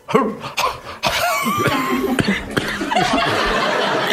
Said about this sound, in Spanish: Me da tos porque es muy difícil.